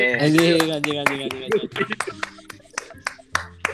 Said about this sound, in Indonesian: Tepuk tangan dulu dong.